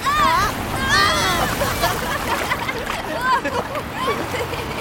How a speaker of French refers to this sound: Allons jouer dans les vagues ! Bon, d'accord. Attention, la grosse vague !